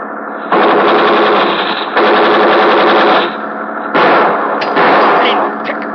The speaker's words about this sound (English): Fire in more! We fire in front of him. That's slowing him down.